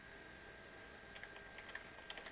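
Soft, irregular clicks of typing on a computer keyboard over a steady hiss and low hum, the keystrokes faint and scattered in small bursts, with no one speaking.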